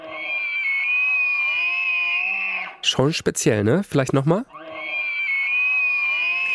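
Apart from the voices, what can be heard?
moose call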